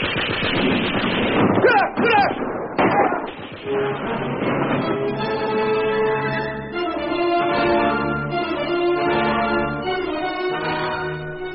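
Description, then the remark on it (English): Loud bursts of rapid fire from heavy and light machine guns, fired by Japanese soldiers, crackle and rattle through the first few seconds, then give way to a steady, droning tonal backdrop for the rest. “Anyway, they threw everything at us. Heavy and light machine guns, grenades,”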